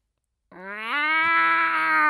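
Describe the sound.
A person voices a drawn-out, nasal cat-like meow that starts abruptly and slides upward in pitch, holding a strained, buzzy tone for about a second and a half.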